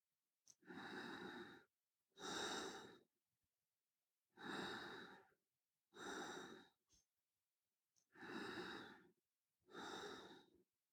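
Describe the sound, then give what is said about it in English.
Heavy, deep breathing by a person right up against the microphone during a demonstration of noise reduction: six loud, breathy inhales and exhales in three steady pairs, separated by short silences, with no talking. “This was some hardcore breathing, which was not amplified.”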